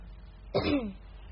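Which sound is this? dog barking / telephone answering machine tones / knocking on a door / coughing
coughing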